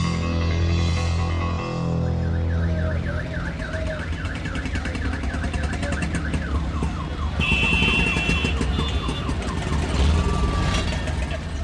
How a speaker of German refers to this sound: Wenn Shamim Shahid, der Präsident des Journalistenverbandes von Peshawar, besonders viele Krankenwagen hört